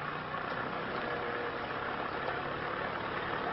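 A pickup truck engine runs as the truck moves off, with a steady, even rumble and broad rushing noise at a constant level throughout, with no voices.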